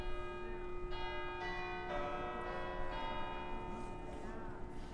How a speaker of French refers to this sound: Et là, avec un projet qui, du coup, permet d'y prêter attention, avec, du coup, les carillons, qui, habituellement, ne sonnent jamais sur les cloches de la cathédrale.